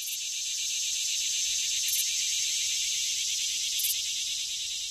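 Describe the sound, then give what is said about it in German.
A dense, continuous high-pitched buzz of grasshoppers chirping fills the scene, steady and unbroken, with a few brief brighter pulses standing out over the constant drone. No voices. “Man bekommt sie nicht oft zu Gesicht, doch ihr Zirpen ist unverkennbar. Heuschrecken.”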